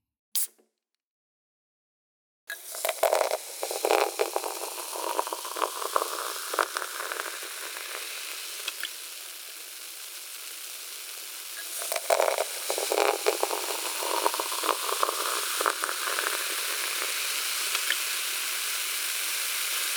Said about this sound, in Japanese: 話していたら炭酸抜けてきました。では追加の炭酸水を注がせていただきますね。